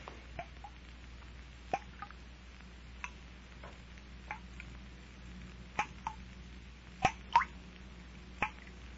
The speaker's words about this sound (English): No. The place is empty. Not a sound but the dripping water.